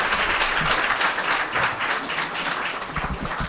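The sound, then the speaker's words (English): A crowd applauds steadily, dense overlapping claps forming a loud, continuous wash of sound with no one speaking. “Applause is a good thing.”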